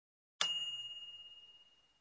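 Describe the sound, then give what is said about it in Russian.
A single bright microwave oven timer ding, sounded when the time set for cooking or heating food runs out, strikes once and rings out, its high metallic tone slowly fading with a gentle wavering shimmer. Nothing else is heard. “Такой звук издает микроволновая печь, когда истекает время, заданное для приготовления или разогрева пищи.”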